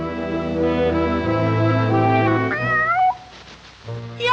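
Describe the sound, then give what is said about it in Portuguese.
A hungry kitten meows loudly in a long drawn-out cry that bends upward in pitch near the end. A brief quiet gap follows before the sound picks up again. “Miau! Eu sou aquele faminto gatinho.”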